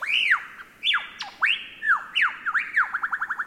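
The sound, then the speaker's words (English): A lyrebird mimics a laughing kookaburra: loud, rising-and-falling cackling squawks in a series of phrases, ending in a quick run of short repeated hoots, with no talking. “are best known for their uncanny vocal abilities, which can incorporate spot-on imitations of other bird species, like this laughing kookaburra.”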